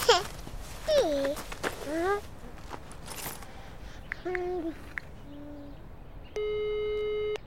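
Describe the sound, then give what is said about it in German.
A telephone ringing tone comes through the line as a mother places a call: a few short electronic beeps, then a steady, buzzing tone lasting about a second, clear. Brief vocal hoots and sliding voice sounds come before it. “Mami möcht mal eben telefonieren.”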